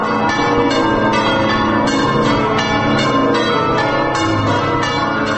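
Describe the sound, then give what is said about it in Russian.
Church bells in Venice, Italy, peal loudly and continuously, calling people to mass after the rain has stopped, overlapping strikes ringing out in a steady, fast rhythm with a rich, resonant metallic tone and no voices. “И колокола зовут к мессе.”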